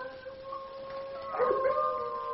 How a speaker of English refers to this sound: Well, I see they have coyotes in Oklahoma, too.